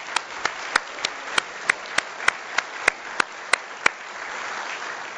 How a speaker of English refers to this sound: If you would indulge me, could you just stand up so we can give you a round of applause? Look at that.